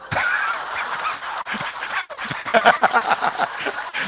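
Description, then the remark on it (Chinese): A crowd of people imitates dog barking after being asked how a dog barks, many voices overlapping in loud, ragged bursts of 'woof'-like yelps that continue for several seconds, briefly dropping out midway before rising again. “你的狗呢？就属阳的了，狗怎么叫的？”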